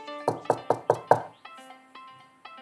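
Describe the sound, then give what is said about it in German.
Five quick, solid knocks on a wooden door in a steady rhythm, fairly loud, followed by soft, gentle tones ringing on afterward with no talking; a little mouse and a girl knock at the door of the hedgehogs' home in a leaf pile in a forest. “Die kleine Maus und Marie klopften an die Türe.”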